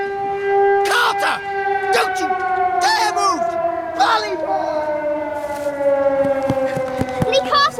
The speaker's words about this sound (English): through the classroom window, slides along a table, and hits the fire alarm with its nose.